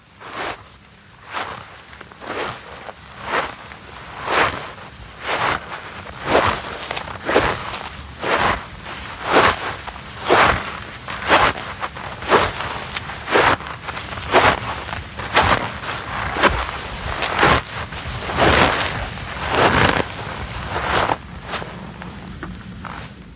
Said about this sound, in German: Schritte im Schnee.